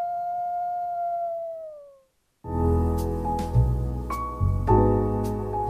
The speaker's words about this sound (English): Minnesota wolves deserve to be protected and admired. Learn more at howlingforwolves.org. Let's live and let howl.